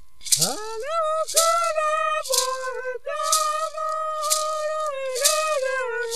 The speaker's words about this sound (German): Diese Rasseln, Maracas genannt, bestehen aus Flaschenkürbissen. Es sind rituelle Musikinstrumente für die Pajés, Schamanen der Tupinambá.